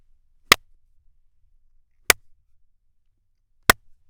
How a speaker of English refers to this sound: I record inside my custom-built sound isolation booth on a Neumann TLM-103 microphone and an SSL 2 Plus interface. And now, here's a few claps.